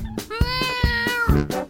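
A single long, drawn-out cat meow, loud and close, holding steady before trailing off, with a regular thumping beat pulsing underneath throughout.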